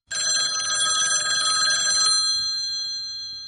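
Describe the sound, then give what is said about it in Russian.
A loud mechanical bell of a wall-hung telephone rings in a rapid continuous clatter for about two seconds, then stops and its metallic tone rings on and fades. “Вдруг, как оно зазвонит, то не звонило, не звонило, а тут как прорвет.”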